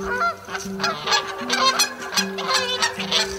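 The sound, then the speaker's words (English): A flock of Canada geese honks in a rapid, overlapping chorus, loud, with calls tumbling over one another continuously over a steady low hum. “Canada geese arriving 5 weeks earlier.”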